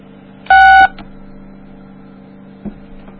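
A single loud phone keypad tone beeps briefly while a 10-digit Sprint PCS phone number is being entered, followed by a couple of faint clicks over a steady low hum.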